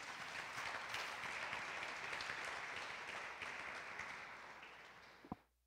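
An audience at a church service applauds God together, a dense wash of clapping that stays steady for several seconds, then thins and fades out, ending with a single sharp thump.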